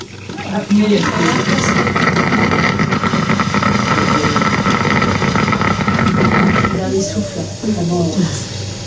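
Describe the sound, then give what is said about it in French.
An electric coffee maker gurgles and rumbles loudly and steadily for several seconds, a rough bubbling roar, before it fades into softer sputters as a voice begins to speak. “Au début, quand j'ai connu ces cafetières électriques, ça me traumatisait parce que ça faisait exactement le même bruit quand un malade est plein de sécrétions et que la machine, alors ça fait exactement le bruit de la cafetière.”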